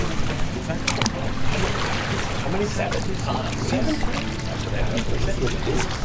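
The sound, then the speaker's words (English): Steady splashing and sloshing of water as a man dips himself in a river to wash, seven times, continuous, with some faint indistinct voices underneath counting. “The prophet said to wash in the river 7 times.”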